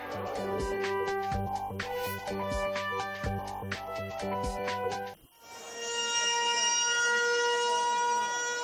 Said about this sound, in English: A 74-second siren was sounded across the West Bank at 12 noon local time, marking the 74 years that have passed since their Nakba, the catastrophe.